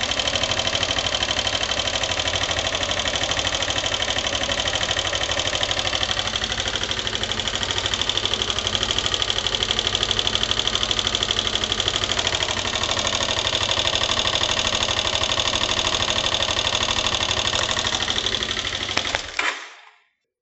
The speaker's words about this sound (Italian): Il rumore che viene prodotto dall'impatto della valvola con il bilanciere in un motore monocilindrico è il seguente.